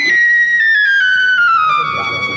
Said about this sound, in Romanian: Ce se aude? Un fluier, augustitate. Cine mă fluieră? Un fluier?